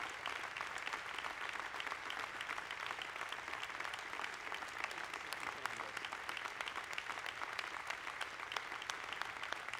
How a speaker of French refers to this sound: On applaudit pour les frères et sœurs.